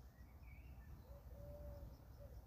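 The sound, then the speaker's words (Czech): Faint birds chirp outside over a steady low rumble: a few thin, high whistled calls, one longer drawn-out note in the middle, with no one talking. “dokonce ani ptáčkové nám tady tentokrát dneska příliš nedělají kulisu, nebo ano?”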